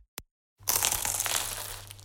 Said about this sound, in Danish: Dette er lyden af dig, der tager en bid af Paris' lækreste croissant.